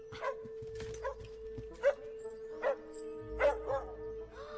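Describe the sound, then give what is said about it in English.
A puppy barks in a string of short, high-pitched yips spaced irregularly, about six in a few seconds, over a steady low background hum. “Oh, puppy.”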